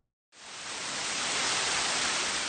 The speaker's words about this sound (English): What terrible weather! It's raining buckets. There's no way we can go out in that.